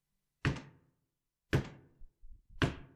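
Three heavy, booming knocks on a door, evenly spaced about a second apart, each resonating briefly, with a few faint softer thumps between the last two. No one speaks.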